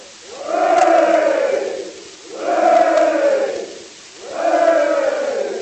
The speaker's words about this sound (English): Three cheers for the general!